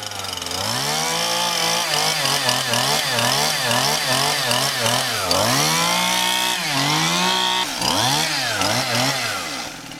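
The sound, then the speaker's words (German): A Stihl MS171 chainsaw, used for felling trees in autumn and winter, runs loud, its engine revving up and down in quick repeated bursts before settling into a few longer, drawn-out revs, with no talking. “Hier hören Sie eine Kettensäge der Marke Stihl, und zwar eine MS171.”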